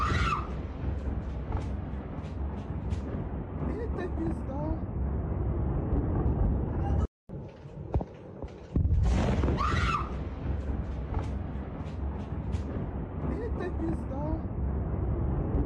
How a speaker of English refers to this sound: I don't know if you can hear that. Little kids screaming in the background and all of that stuff. It's because they're freaking launching a massive freaking attack on Kyiv.